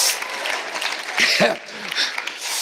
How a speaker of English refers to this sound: Thanks for cheering me on.